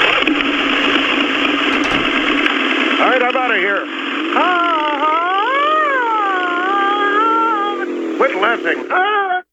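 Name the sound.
motorcycle driving away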